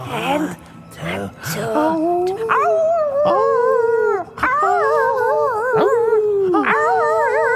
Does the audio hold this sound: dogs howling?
yes